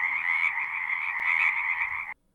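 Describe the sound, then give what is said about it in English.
A dense chorus of chorus frogs, also known as tree frogs, croaking together in a steady, continuous trill, loud, sustained for a couple of seconds before cutting off abruptly. “These are chorus frogs, also known as tree frogs.”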